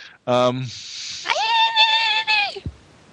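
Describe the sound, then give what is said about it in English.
A voice attempts the Xena warrior battle yell: a short harmonic burst, then a hissy breathy stretch, then a high sustained warbling ululation that cuts off after about three seconds, fairly loud. “That was a really bad attempt to do the Xena yell.”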